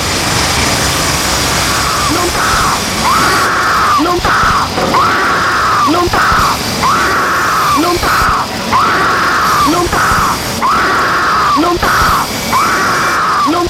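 woman screaming in terror

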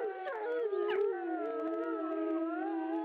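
wolf howling

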